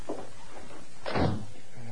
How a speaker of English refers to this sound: Clay, I heard the door close. Is that man gone?